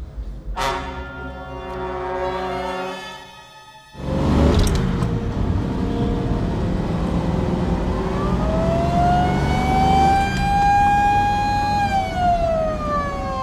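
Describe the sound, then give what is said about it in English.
An ambulance siren wails over a loud, rumbling vehicle engine, its pitch sweeping up and holding high before dropping again, steady throughout the second half. “Slow down and cut the siren, Bill.”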